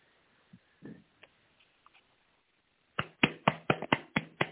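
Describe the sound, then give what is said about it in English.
A person pats their chest with a hand: a quick, steady run of about seven dull thumps, following a few scattered soft taps and rustles. “I'm patting my chest.”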